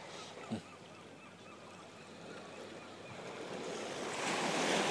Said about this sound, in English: I've seen one every 10 seconds of the sea crashing at the shore.